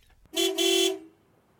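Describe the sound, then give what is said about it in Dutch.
A loud vehicle horn honks twice in quick succession, a short blast followed by a longer one, with the start of a third honk cutting in at the very end. “Hij begint luid te toeteren en Bliksem geeft gas, zodat zijn motor veel herrie maakt”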